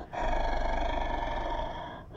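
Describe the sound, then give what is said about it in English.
A beast named Hubba gives a low, guttural growl that rumbles steadily for nearly two seconds, rough and deep, then cuts off abruptly. No one speaks over it. “He growls in a low guttural rumble, ready to pounce.”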